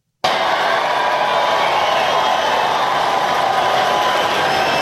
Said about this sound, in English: Listen to that crowd. Oh, my Listen God. Listen to that crowd. They're worked up fervently over the fact that Ted Cruz just told some kid that children should be respectful.